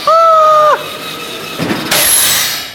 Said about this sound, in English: Off you go, the car's out of control!